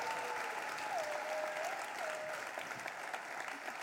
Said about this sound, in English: I don't want you to think that we let awkward church clapping go, okay? Now, if you're going to clap, would y'all clap, right? Yeah.